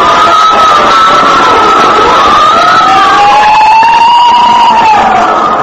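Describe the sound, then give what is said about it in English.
Fire engine sirens wail loudly and continuously, their overlapping tones rising and falling in slow sweeps over a dense wash of background noise. “Every time I hear fire engines at night, I think of Harrison Murdock and the Santilli case.”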